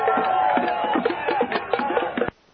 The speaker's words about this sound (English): 1:30, the crowd is on the move up Water Street toward San Lorenzo. And it looks like a lot of young students.